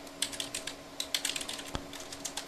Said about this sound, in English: Sorry, typing that into the show notes too.